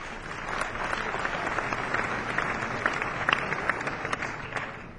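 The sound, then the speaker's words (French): A festival audience applauds the Top Pass holders who attended every concert from start to finish, dense overlapping claps forming a sustained roar of clapping that holds at an even level throughout, with a few sharper individual claps standing out. “On peut les applaudir, ils ont fait tous les concerts du début à la fin.”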